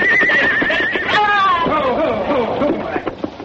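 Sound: frightened horse whinnying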